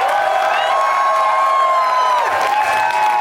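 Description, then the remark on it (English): A live audience in Boston applauds and cheers steadily for a few seconds, dense clapping mixed with loud whoops and shouting voices, sustained throughout. “And thank you to everyone, all my Boston friends for coming out today. You're an amazing crowd.”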